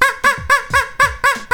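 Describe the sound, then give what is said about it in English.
A voice imitates a duck with seven loud, nasal quacks in quick, even succession, with no other talking. “So I don't know how accurate of an imitation of any particular species of duck this is, but it doesn't matter.”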